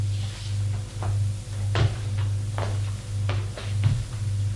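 nightstand drawer being opened

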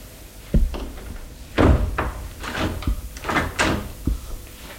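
door being closed

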